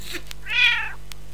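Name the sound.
tomcat meowing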